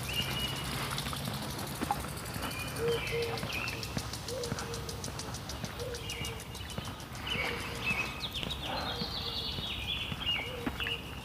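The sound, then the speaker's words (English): Soft, low cooing notes from a mourning dove repeat steadily over an outdoor background on a beautiful day, while smaller birds chirp and tweet in higher bursts throughout. “Morning dove, cuckooing, birds chirping.”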